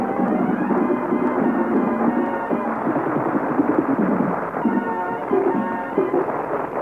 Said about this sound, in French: On les applaudit tout de suite.